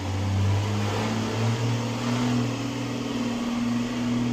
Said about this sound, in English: I'm assuming that large truck was all in your ears just then. There's quite a lot of construction going on.